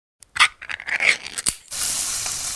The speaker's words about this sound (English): hear that? That's the Spam brand singing you a love song. Spam. Sizzle